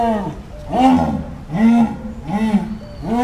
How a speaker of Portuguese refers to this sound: E assim como o leão, o tigre e o leopardo, ela faz uma série de roncos muito fortes, que são chamados de esturro.